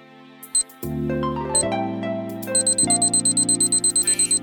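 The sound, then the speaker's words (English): A clock sound effect ticks rapidly and steadily in the second half, crisp and bright over sustained synth chords that shift between a few held notes, with a couple of short clicks early on. “The clock starts now.”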